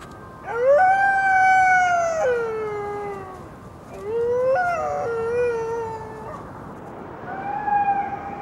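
A she-wolf howls from a clifftop at night, calling out to other wolves, in long, sustained, wavering tones, with three drawn-out calls that rise and slide in pitch, clear, with no voices.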